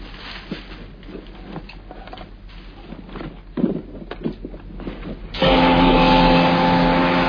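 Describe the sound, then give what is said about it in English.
Scattered clicks and patter give way to a scooter engine, driven by a man, that suddenly roars in loud, holding a steady droning buzz through the final seconds. “He drove the scooter himself.”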